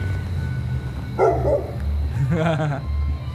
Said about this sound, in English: Yeah, so the reason I recorded that was because the dog was going to the rhythm of it, but he stopped barking, he started going again.